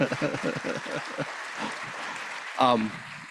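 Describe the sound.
Steady applause from an audience thanking a speaker at the end of an evening program, a dense wash of clapping at an even level, with voices mixed in and a brief louder vocal outburst near the end.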